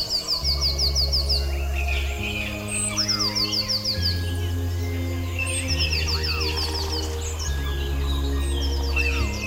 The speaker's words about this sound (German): Von überall her nahm er das Rauschen der Baumwipfel im Wind wahr und das Gezwitscher der Vögel aus der Ferne, die mit anderen in seiner Nähe im Chor sangen.